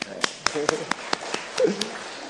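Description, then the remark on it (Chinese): Scattered applause from the audience at a church worship service, thanking a young woman who has come: about eight sharp, separate hand claps at an uneven pace over a couple of seconds, with soft murmuring voices underneath. “我们都多谢她，给她掌声。”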